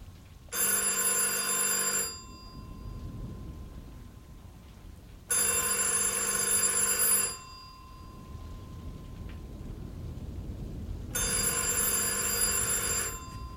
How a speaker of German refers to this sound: Ich gehe ans Telefon.